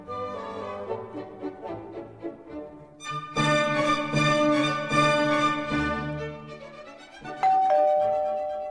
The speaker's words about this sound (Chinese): 这时候门铃响了，房东走了进来说， 梅里摩斯坦小姐要见你们啊。